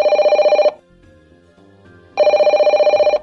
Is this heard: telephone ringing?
yes